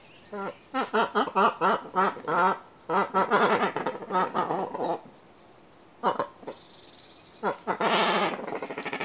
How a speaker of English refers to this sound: A sleek, dark seabird, the cormorant's call is an unusual one. When I was a kid, I knew them as billy divers, so called because of their habit of diving underwater to catch fish.